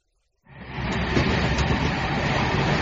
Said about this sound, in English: Hello, I'm on the train now.